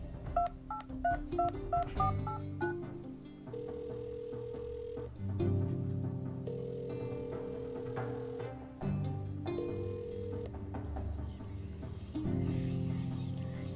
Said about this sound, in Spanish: Tomó su teléfono fijo, se sentó en su cama, dio un suspiro profundo y marcó el número de su celular.